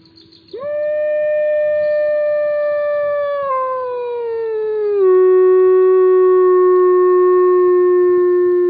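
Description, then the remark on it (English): A single wolf lets out one long, sustained howl that starts abruptly, holds a steady pitch, then slides lower and settles into a drawn-out tone. It sounds loud, with no talking. “Let's go out with the wolf.”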